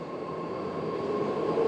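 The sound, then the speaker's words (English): A BART rail train hums and rumbles steadily at a station in San Jose on a warm evening, with a faint tonal whine running through the dense, even noise. The sound stays constant, with no one speaking. “It's a warm evening, and I'm hanging out at the BART train station in San Jose.”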